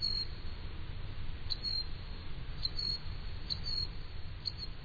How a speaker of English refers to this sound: they flash their purple throats and utter a song described by 19th century naturalists as like the sharpest note on a violin. A male Costa's hummingbird weighs 3.6 grams, which, given its voice, is maybe just as well.